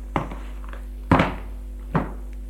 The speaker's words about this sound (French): Elle va dans le bureau de son mari. Va au bureau, ouvre le tiroir,